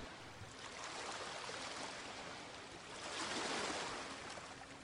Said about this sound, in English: You can hear the crash of waves.